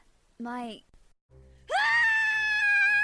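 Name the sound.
person screaming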